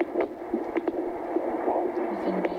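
A Doppler monitor, used by a nurse midwife during a prenatal visit at St. Joseph's Hospital Women's Health Clinic in Buchanan, hisses and whooshes with a steady, muffled pulsing of a fetal heartbeat beneath static, fairly loud, with no one talking.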